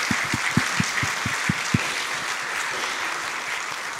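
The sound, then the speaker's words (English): A church crowd claps hands in appreciation of its Sunday school teachers, a steady, dense wash of applause with a few sharper beats standing out early on, continuing evenly to the end with no one talking. “Can we give all of our teachers a hand clap of appreciation?”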